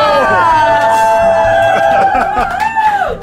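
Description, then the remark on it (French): A lively group of slightly tipsy people who have been drinking for 24 hours bursts into a radio studio, loud overlapping voices chattering and whooping in a sustained, cheerful hubbub that carries on for a few seconds. “des gens légèrement éméchés depuis 24 heures nous rejoignent à l'intérieur du studio 108 de Radio France”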